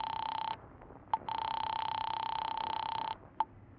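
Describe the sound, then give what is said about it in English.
A steady telephone tone hums on the line, broken by a short gap and a couple of sharp clicks as a phone is dialed in a drugstore phone booth; no voices. “you stop the car a block away from Millie's apartment and hurry into a drugstore phone booth”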